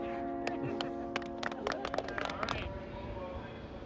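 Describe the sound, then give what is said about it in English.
An F subway train rumbles along the rails from Sutphen Boulevard to Jackson Heights, Roosevelt Avenue, with a steady low roar, sharp metallic clacks and a faint high whine, the clatter easing off toward the end. “I took the train home, hopped on the F at Sutphen Boulevard to Jackson Heights, Roosevelt Avenue.”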